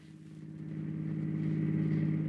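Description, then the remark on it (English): A car engine hums steadily with a low, harmonic drone that gradually grows louder and rises slightly, as if the vehicle is revving or approaching, with no voices present. “An automobile.”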